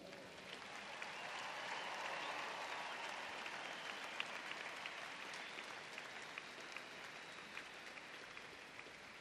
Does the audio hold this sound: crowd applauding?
yes